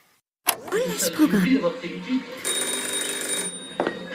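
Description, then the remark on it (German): A telephone bell rings at home in a steady, bright burst after a sudden start, with murmured voices and room noise running underneath at moderate loudness. “Das Telefon klingelt zu Hause bei Klots Frau”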